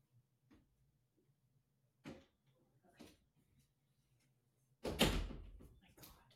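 A door creaks and clicks open, followed by a few soft knocks, then a louder thud as it swings shut with a brief rattle, as the door is opened and closed to let the cat Lily in after she scratches at it. A steady low hum runs underneath.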